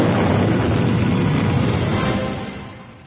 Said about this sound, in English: Before the assault vehicle could actually strike the ground, Turpin fired both of his powerful blaster cannons. The beams blew up Fergin's MT-AT with a blinding flash just above the spiked rocks.